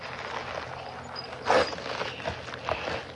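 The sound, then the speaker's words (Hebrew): A plastic bag with things inside crinkles and rustles as it is handled, with a louder crackling burst in the middle and a smaller one near the end. No one speaks. “זה שקית.”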